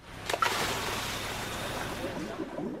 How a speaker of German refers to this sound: Mal abgesehen vom Ein- und Ausatmen des Tauchers, von dem Geblubber also, das Menschen produzieren, wenn sie das Meer erkunden, auch ansonsten geht es ganz schön laut zu unter Wasser.